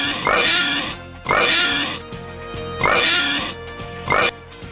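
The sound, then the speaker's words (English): Four loud, squealing pig oinks in a steady rhythm, each a brief nasal grunt rising into a high squeal, with no talking. “Okay, let's get the oinks.”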